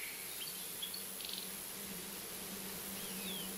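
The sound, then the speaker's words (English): A steady, low drone of bees buzzing continuously near a beehive, fairly faint and even, with a few soft high chirps flickering in the background. “We suddenly heard a buzzing sound.”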